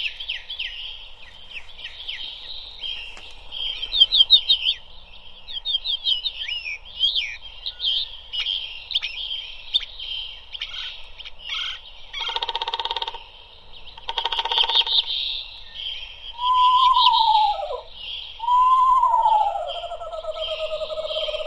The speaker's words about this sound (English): Now, the pop-up has those woodpeckers right at the top of the trees, popping up right out of the book. Yeah, those nice knocking sounds.